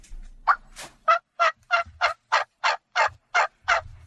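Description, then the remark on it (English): A turkey hen gives a simple, laid-back yelp call in a steady series of about ten evenly spaced, raspy notes, clear with no other sounds around them. “That's a very simple hen yelp.”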